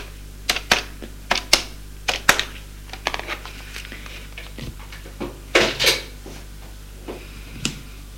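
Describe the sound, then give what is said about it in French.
A woman lifts a telephone handset in a first-floor living room and dials a number: a dozen or so sharp, irregular clicks and taps, with a brief louder clatter midway, over a faint steady hum and no voices. “Elle prend le téléphone, fait un numéro.”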